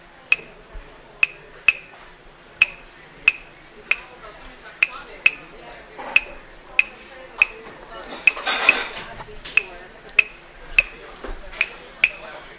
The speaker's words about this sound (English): Por ejemplo, tengo en mis manos ahora el ritmo de la clave del son. Por ejemplo.